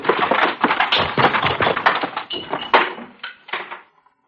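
slaps to the face

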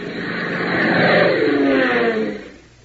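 light aircraft engine

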